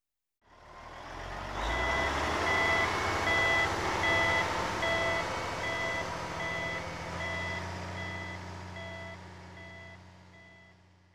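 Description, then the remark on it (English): A reversing truck sounds a steady series of short, high-pitched beeps at an even pace over its deep, rumbling engine, fairly loud, with no one speaking. “Some sounds can make us feel uncomfortable, like these short, high-pitched sounds from a reversing truck.”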